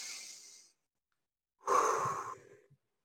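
A deep, airy breath drawn in through the nose, a short pause, then a louder, rushing exhale that trails off like a sigh. No one talks.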